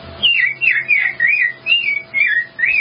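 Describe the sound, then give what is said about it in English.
A person whistles an imitation of an American robin's call: about seven quick, warbling phrases in a steady rhythm, loud, with brief pauses between them. “American robin.”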